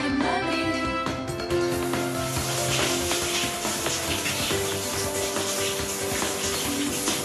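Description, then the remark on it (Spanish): A shower runs steadily, a continuous broad hiss of spraying water lasting the whole time at an even level, with faint musical tones underneath. “La musiquita, el sonido de la ducha, ducha.”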